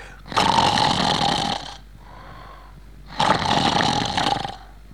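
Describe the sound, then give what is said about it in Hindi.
A voice imitates the loud snoring of a man asleep while watching a film, two long rasping snores with a short quiet breath between them, forceful. “एक साहब जो बाजू में बैठे हुए थे वो सो रहे थे और सोते सोते खर्राटे ले रहे थे और खर्राटे वो यूं ले रहे थे।”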